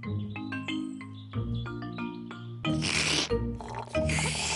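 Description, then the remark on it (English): A light melodic tune plays, then two loud stretches of gurgling burble follow: Peppa Pig blowing bubbles through a straw into her orange juice in the show Peppa Pig, with no talking. “George, look at all the tiny bubbles.”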